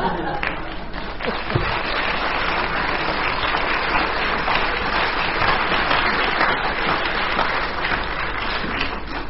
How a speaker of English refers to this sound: I think that's a dead heat, the amount that you gave in the way of applause to Dennis and to Frank, so I'm going to share the marks between them.